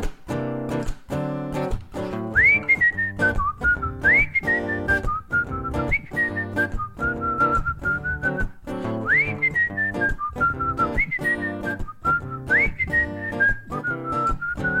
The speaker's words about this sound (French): Et la première chose à savoir, c'est que Parfois je siffle, et je vais te montrer ça, cher auditeur.